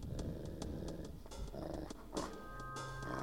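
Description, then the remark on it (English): A golden retriever, stopped on a hiking trail, growls low and steadily for a few seconds, a rumbling snarl with no one talking, and brief sharper rasps break through now and then. “She started to growl a little bit, and you don't ever hear her growl.”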